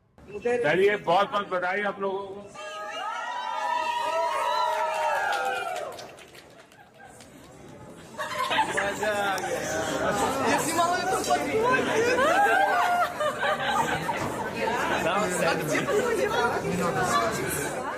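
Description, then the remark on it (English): A large crowd cheers and shouts for Modi in a dense, sustained roar of many voices that swells up after a few seconds of individual voices calling out, staying loud to the end. “I mean, he's got everybody cheering him on and stuff.”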